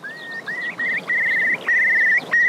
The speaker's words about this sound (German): Und das ist auch ganz besonders an den Elternvögeln, die warnen ihre Küken dann und sagen denen, Achtung, es droht Gefahr. Und das, wie machen die das? Die stoßen so einen ganz besonderen Laut aus.